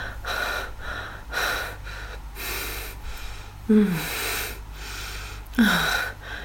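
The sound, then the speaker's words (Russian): A young woman's heavy, noisy breathing, a steady rhythm of ragged inhales and exhales, twice broken by a sharp, voiced gasp. No one speaks. “Сердце девушки бешено колотилось, а грудь вздымалась в такт тяжелому, шумному дыханию.”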